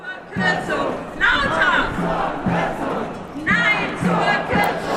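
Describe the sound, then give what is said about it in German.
Several hundred psychotherapists rally at midday on the Rathausmarkt in Hamburg, protesting a 4.5% cut to their fees, shouting and chanting in loud, rising waves, with steady low thumps like a drumbeat pulsing underneath the massed voices. “Hier in Hamburg haben sich deshalb am Mittag mehrere hundert Psychotherapeutinnen und Therapeuten auf dem Rathausmarkt versammelt.”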